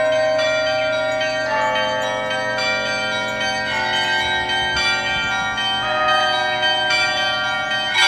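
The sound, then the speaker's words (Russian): Small and medium church bells ring together in a dense, overlapping peal, with rapid repeated strikes layering bright metallic tones that sustain continuously at a steady, fairly loud level, with no voices. “Послушайте, как будут звучать колокола подзвонные и зазвонные, если их вместе совместить.”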